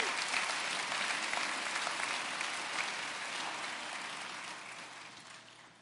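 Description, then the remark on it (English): A large church audience applauds with dense, steady hand claps that fill the space, holding strong before gradually tapering off toward the end. No one speaks over it. “Come on, let's give him another hand clap.”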